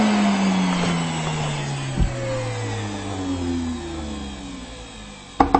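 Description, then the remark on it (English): A 10-gallon shop vac, tipped and then switched off, winds down, its motor hum sliding lower in pitch, and then its float, which had sealed against the motor, drops back into place with a quick pair of sharp clicks near the end. “That's the float thing going back down.”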